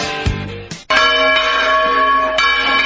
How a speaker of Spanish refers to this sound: Pero padre Anselmo, ¿qué hace tocando de esa manera las campanas, si ni siquiera es hora de misa?